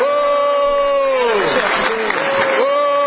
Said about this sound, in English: And he's saying thank you very much as they're booing him, talking him down. Listen carefully. They will not be denied.